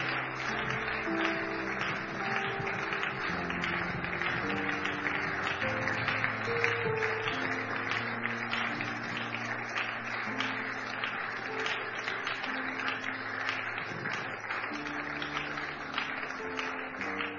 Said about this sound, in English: Keep clapping. Motivate them as they come.